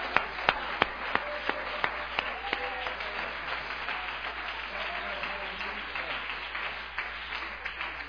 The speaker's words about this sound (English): Praise God. Let's clap our hands again for the Lord.